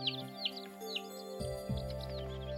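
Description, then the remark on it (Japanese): Small birds chirp in a quick series of high, bright calls that repeat throughout, set over a steady, sustained low tone in the background. “すぐに小鳥がやってきたとさ。”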